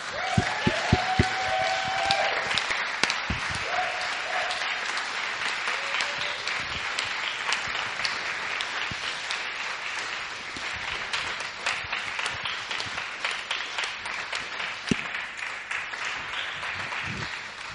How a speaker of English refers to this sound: We're going to applaud you all the way back to your seat.